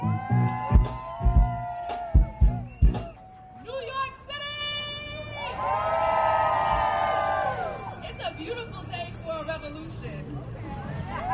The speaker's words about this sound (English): Let's give her a round of applause, everybody.